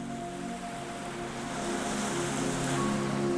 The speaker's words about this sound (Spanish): La marea está tranquila. Las olas llegan con delicadeza y se retiran sin prisa.